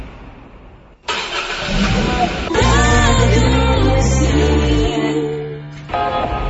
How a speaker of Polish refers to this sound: Wejdźmy do samochodu i pojedźmy gdzieś, gdzie będzie nieco ciszej.